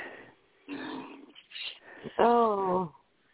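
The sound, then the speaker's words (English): Heavy, rasping breaths come through a narrow, tinny phone line, several in a row, the last drawn out into a louder, voiced, almost whining exhale. Nobody speaks. “Oh, so breathing awful heavy.”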